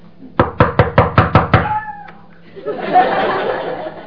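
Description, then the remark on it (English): A quick run of about seven firm, evenly spaced, loud knocks on a door, followed after a short pause by a rough, noisy rush of sound. “Keep knocking. Keep yelling, then what do?”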